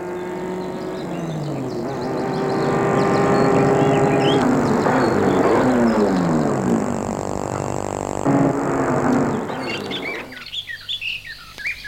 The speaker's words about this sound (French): Après une heure de marche sur une route de campagne en pleine journée, elle voit arriver à elle une voiture noire.